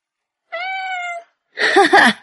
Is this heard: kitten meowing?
yes